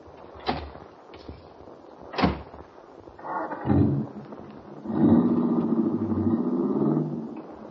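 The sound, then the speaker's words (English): Several solid car door thuds, three sharp clunks in quick succession, of a car parked out front, followed by rustling movement and then a steady engine rumble starting up and idling. No one speaks. “My car is right out front.”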